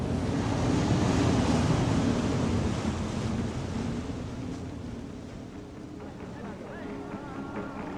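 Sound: sea waves with wind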